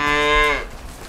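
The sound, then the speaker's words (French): A cow on a farm with 40 cows gives a single loud, drawn-out moo that fades after about half a second, leaving only faint outdoor farm ambience behind. “Et les vaches, vous en avez plus que 5 ?”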